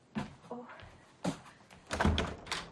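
front door opening

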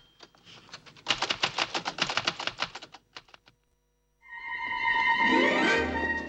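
typing

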